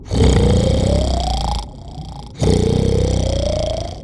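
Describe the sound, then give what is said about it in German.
Two long, loud grunting growls, each rising slightly in pitch, separated by a short pause. It sounds like voices imitating two whales giving farewell grunts, with no other talking. “Deshalb lassen die beiden Wale zum Abschied noch ein paar dankbare Grunzer los.”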